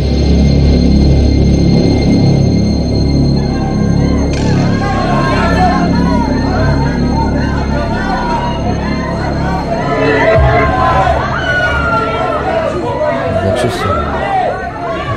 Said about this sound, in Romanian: Ce se aude? Strigăte? Huiduieli? Mulțime de oameni s-au strâns și ne întâmpină amenințătoare.